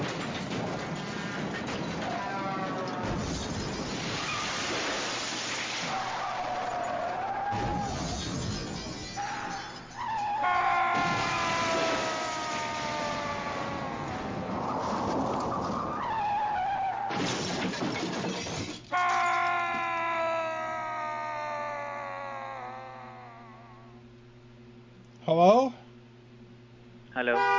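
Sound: car skidding and crashing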